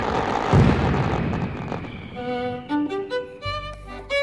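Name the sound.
fireworks exploding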